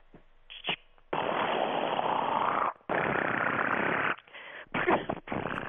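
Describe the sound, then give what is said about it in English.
A voice imitates a machine gun during a sound-imitation game, with loud, rapid rattling bursts separated by brief pauses, the last stretch choppier and dissolving into giggling. “The giggling machine gun.”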